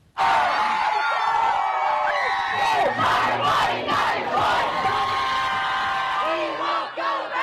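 A large crowd gathered outdoors in front of the Supreme Court erupts in loud, sustained cheering and shouting on hearing the news, with overlapping whoops and yells rising in bursts throughout.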